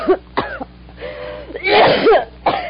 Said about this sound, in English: You got a bad cough, you need some sun.